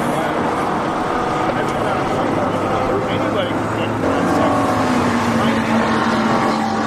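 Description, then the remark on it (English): Race cars roar past during a race in a loud, continuous engine drone, with the pitch sliding as another car sweeps by partway through; the cars carry LCD lights on their sides showing their race position, and car number one passes. “All the cars seem to have like LCD lights set up on the side of the car, and there goes number one.”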